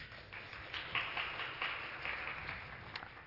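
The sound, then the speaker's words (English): An audience applauds the people who made a baptism video, a dense, steady patter of many hands clapping at once with a few sharper claps popping out, holding at an even level for a few seconds without any talking. “Let's give them a round of applause for doing that video.”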